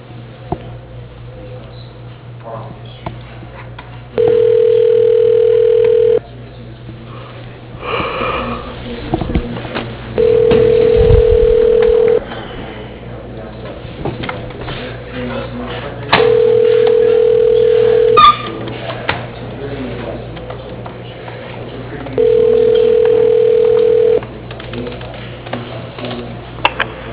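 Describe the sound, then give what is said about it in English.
A telephone ringback tone sounds four times as a call is transferred to another person's line at CPC Pump. Each steady mid-pitched burst lasts about two seconds, with long silent gaps between, over a faint hum of line noise. “Yes, I'm transferring you now.”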